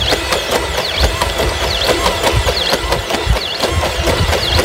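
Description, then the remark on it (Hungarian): The Atlas humanoid robot running: a steady mechanical whir with rhythmic clicking footfalls and repeated rising-and-falling servo whines, fairly loud and continuous, with no voices. “És közben kommentálhatjuk, tehát látjuk, ahogy hát nem éppen hangtalan ez a mozgás.”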